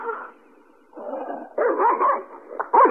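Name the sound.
dog barking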